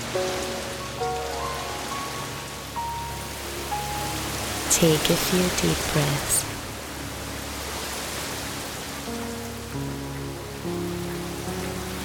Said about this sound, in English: Enjoy the last of this heavenly shower.